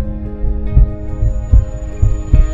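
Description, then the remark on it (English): A muffled, deep heartbeat thumps in a slow, steady rhythm, the low double beats against a soft, sustained tonal drone in the background. “From conception, God placed a rhythm into our life. It starts with a heartbeat.”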